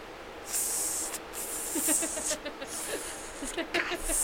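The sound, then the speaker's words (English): A voice makes long, sharp snake-like hisses in several drawn-out bursts, imitating the scrape of ice skates, with brief pauses and faint vocal murmurs underneath. “I would lose the snake sound.”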